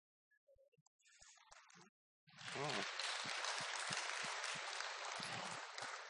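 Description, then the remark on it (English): A crowd bursts into loud, sustained applause as the speakers come out, a dense wash of clapping that swells after a few scattered claps and holds steady to the end. “always gets this round of applause when we come out.”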